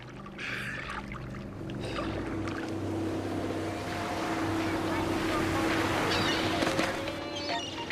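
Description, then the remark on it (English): A tourist boat cruises this way across the water, its low engine drone sustained throughout, with wind and lapping waves around it and occasional faint voices in the background. “They're coming right this way. Yep. They wave. You realize that's the distress signal. We're in distress. The boat cruises.”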